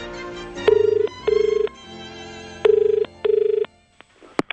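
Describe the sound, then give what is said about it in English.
A very old rotary telephone bell in an antique shop rings loudly in two double bursts, each a rapid metallic trill, followed by a brief click and faint handling noise at the end. “For this rotary phone. Very old.”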